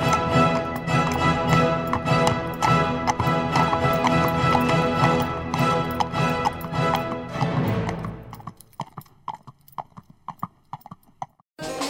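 Horse hooves clip-clop at a steady trot beneath full, busy music; as the music cuts away, the hoofbeats continue alone, crisp, for the last few seconds.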